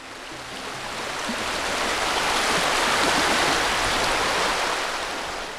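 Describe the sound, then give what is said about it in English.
The River Rye in North Yorkshire, England, gushes and babbles steadily, a dense continuous rush of flowing water that swells slightly louder through the middle before easing, with no voices present. “And that gushing, babbling and trickling, that endless flow you hear,”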